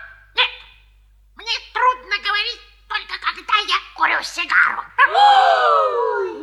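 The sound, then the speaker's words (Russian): A person imitates a talking puppy named Alberg, making a string of high, whiny yips and babbling bursts, ending in a longer, drawn-out whimpering whine. “Казалось, говорил сам щенок.”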